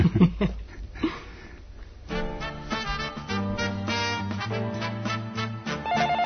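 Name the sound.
telephone ringing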